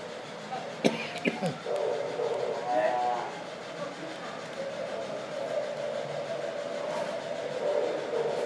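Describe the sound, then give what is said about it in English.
A steam train whistle sounds as a long, sustained tone, following a few sharp knocks and a cough-like burst amid rumbling railway ambience. “Another whistle there.”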